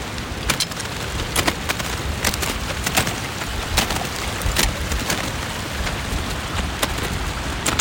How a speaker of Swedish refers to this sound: Här kommer en liten bäck med smältvatten som rinner ovanpå glaciären. Och det blir en djup blå nyans nästan. Där vattnet pålar fram. Som vilken bäck som helst.